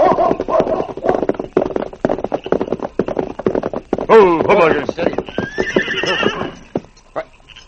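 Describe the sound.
On a trail, steady hooves clip-clop throughout, and midway a horse grazing beside the trail lets out a loud, wavering whinny. A voice can be heard briefly near the start.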